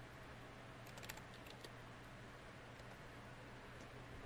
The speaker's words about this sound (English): Typing. She's checking right now.